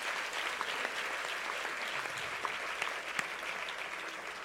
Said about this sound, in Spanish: Si usted quiere, dele un aplauso al Señor por eso.